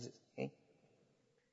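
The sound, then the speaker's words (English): A voice imitates a sheep's bleat in two short, nasal bursts, the second one louder, followed by quiet background noise. “Yeah, practice your sheep.”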